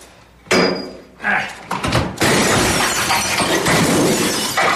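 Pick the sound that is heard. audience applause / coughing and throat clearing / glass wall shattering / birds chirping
glass wall shattering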